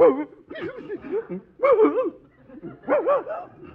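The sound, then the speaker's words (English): A big St. Bernard barks and grumbles in three loud bursts of wavering, drawn-out woofs, with short pauses between them and no one speaking. “This St. Bernard is as intelligent as I am.”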